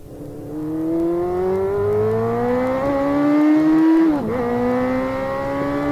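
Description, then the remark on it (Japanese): A loud motorcycle engine roars steadily at high revs as it is ridden fast toward the Tama River embankment, its pitch climbing gradually over several seconds, then dipping briefly as it shifts before pulling up again, with no voices present. “めちゃめちゃバイクで飛ばしていたらいつの間にか多摩川の土手に出ていた。”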